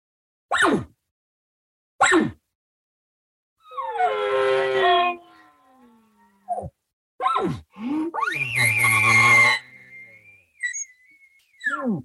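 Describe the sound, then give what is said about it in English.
A hunter's elk bugle call, given as a location bugle to find elk: two sharp chirps, then long rising, raspy squeals that break into a high sustained whistle, with low grunting chuckles between. Loud and alone, with no talking. “There's none of this little bugle and then don't say nothing till noon.”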